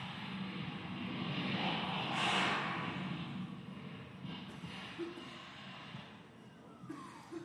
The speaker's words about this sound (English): This is a video of a friend of mine, a Canadian F-18 pilot, flying at an air show in Canada.